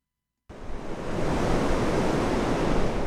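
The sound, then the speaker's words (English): After a brief silence, heavy ocean surf from a hurricane swell crashes onto Higgins Beach in Scarborough, Maine, as a loud, steady roar of churning water that continues for several seconds with no voices. “Surfers often gather on this beach in the fall and winter when the waves are bigger, but they're turning out this week to take advantage of a particular weather event.”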